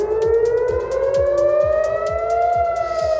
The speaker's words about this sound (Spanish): Son las alarmas de Tel Aviv.